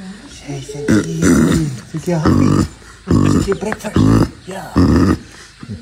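A person makes loud, baboon-like guttural grunts and hoots in about five rhythmic bursts with short gaps between them, imitating a monkey's vocal calls.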